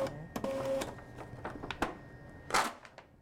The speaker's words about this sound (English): Taking a little longer than the last one. Okay, I'll print it out. I'll go ahead and take the paper out.